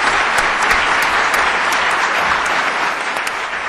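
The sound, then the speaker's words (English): Sustained audience applause at a welcoming ceremony at the New York Court of Appeals, a dense, steady wash of many hands clapping at an even loudness for the full few seconds, with no voices standing out above it. “You keep applauding like that.”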